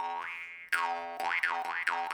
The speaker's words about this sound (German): Jo, okay, ich packe die Maultrommel jetzt weg. Ich glaube, das nervt.